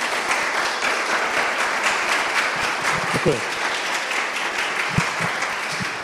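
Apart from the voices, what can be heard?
audience applause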